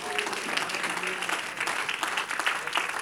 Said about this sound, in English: In Jesus' name, can we clap our hands unto the Lord?